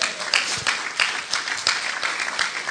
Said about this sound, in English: Can we hear a bit of a cheer or a hallelujah for that?